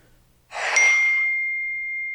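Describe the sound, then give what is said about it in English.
A phone notification ding sounds once: a bright, soft chime that rings out with a long, steady high tone slowly fading over a couple of seconds, with no talking. “That was my phone.”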